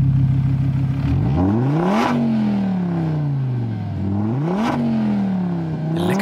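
A Donkervoort D8 GTO sports car's 2.5-litre Audi five-cylinder engine revs hard, rising through the gears in repeated sweeps with brief drops at each shift, loud, with no voices.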